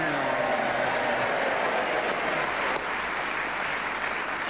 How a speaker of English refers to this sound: … speaking as the whistle went, gained that extra point, and a resounding round of applause from this naval audience here, because it's the first time he was speaking as the whistle went.